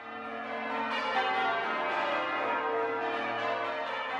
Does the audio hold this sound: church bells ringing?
yes